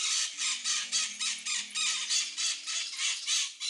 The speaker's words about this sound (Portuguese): Tá vendo? Isso é uma maritaca, certo?